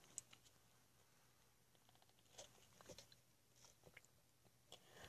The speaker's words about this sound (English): Hold on, I'm going to take a sip of tea.